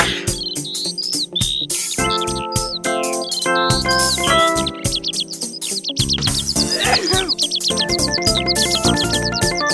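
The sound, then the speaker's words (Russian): Small birds chirp and sing continuously, with rapid high trills and twittering phrases layered over one another, loud and lively throughout with no talking. “Пташки, пойте, други, кормят сытно, надо петь.”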